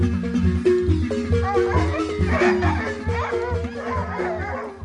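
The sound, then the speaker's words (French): Several dogs bark and yelp in short, overlapping bursts over a steady, low musical drone, moderately loud throughout. “Général, tes hommes ont-ils chassé les chiens du char de sa majesté?”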